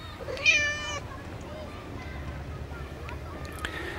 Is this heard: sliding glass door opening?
no